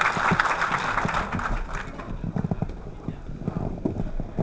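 Audience applause thanking the three musicians who played the band accompaniment for the whole show: a dense, steady patter of many hands clapping for the whole stretch, easing slightly midway before picking back up with sharper, more distinct claps.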